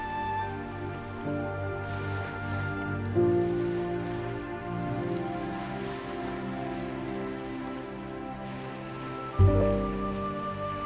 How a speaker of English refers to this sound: These thoughts will begin to quiet down as you concentrate on listening to the sound of the waves.